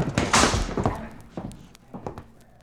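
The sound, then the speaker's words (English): A heavy vault door is slammed shut to lock a crooked banker and his gang inside, a loud, booming metallic crash, followed by a few fainter clunks over the next couple of seconds as it settles and locks. “I'm going to shove them all into this vault and slam the door.”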